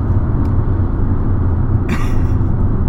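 Steady low road rumble from inside a moving car on a trip, continuous and fairly loud, with a brief hissing swell about two-thirds of the way through. Nobody speaks.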